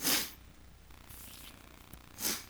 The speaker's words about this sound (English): Well, our Bibles are open, right? I hear the page is still rustling. Rustle. That's a good thing.